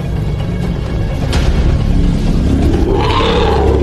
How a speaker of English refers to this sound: elephants make their way through the clearing, the biggest ones trumpet at the hyenas. The much smaller animals keep their distance.